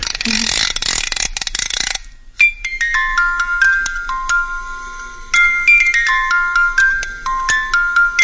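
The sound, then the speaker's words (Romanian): A rasping ratchet of a musical clock being wound again for about two seconds, then a delicate chiming melody rings out in clear, sustained bell-like notes, playing a slow tune with no talking. “Am să învârtesc din nou ceasul.”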